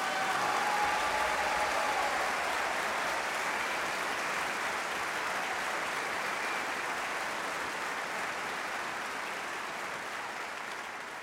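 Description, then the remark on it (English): Sustained audience applause at an orchestra event honoring long-serving orchestra members, a dense crackle of many hands clapping at a steady loudness for about eleven seconds, tapering slightly toward the end with no voices standing out. “Okay, you can applaud now.”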